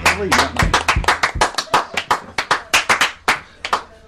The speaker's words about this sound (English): That was a rubbish round of applause, wasn't it? That was terrible.